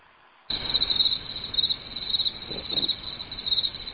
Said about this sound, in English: Those are crickets.